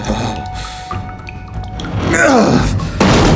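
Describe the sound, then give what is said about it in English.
A heavy wooden trapdoor creaks as it swings down, then slams shut with a single loud thud near the end, over a dim rumbling background; it is shut and its two bolts slammed home. “McNeil shut the trapdoor and slammed the two bolts home.”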